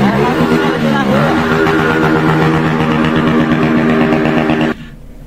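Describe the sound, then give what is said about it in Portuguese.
A young man's motorcycle with a loud modified exhaust in Manaus, Brazil, drones steadily for several seconds, a rough, buzzing roar with a slight dip and rise in pitch early on, then cuts off abruptly near the end. “E aí um rapazinho aí tava com a moto, com aqueles cadrão, aqueles cantos que não deixa ninguém em paz.”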